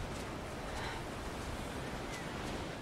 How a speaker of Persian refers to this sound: میشنوی؟ آبه.